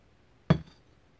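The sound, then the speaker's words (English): A single bright meditation chime strike, sharp and clinking, fading quickly into near silence after a brief ring. No voices accompany it. “And as the chime ends, just move your awareness to other sounds you may hear.”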